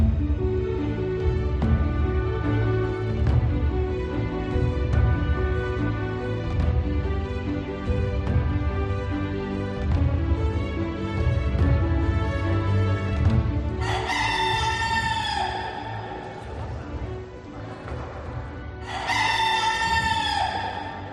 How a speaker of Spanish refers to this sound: Este es el sonido del gallo de la Catedral de Santo Domingo de la Calzada, bien conocido de los españoles porque, dice el dicho, Santo Domingo de la Calzada, donde la gallina cantó después de asada.